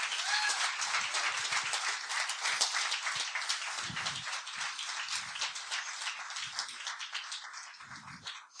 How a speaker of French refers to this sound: Est-ce qu'on peut les remercier, les applaudir?